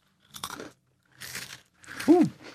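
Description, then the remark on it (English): Three crisp crunches of someone biting into and chewing a crunchy, powdery, tart lemon cookie (Savannah Smiles), each burst short and dry with brief pauses between, no talking. “It's tart, powdery. I'm not a fan of powdery cookies. I got powder on me. Yeah, but the powdered crunch, sugar.”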